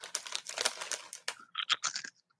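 food or drink, crunching potato chips

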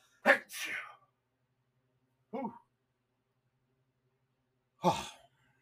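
human body sound, sneeze

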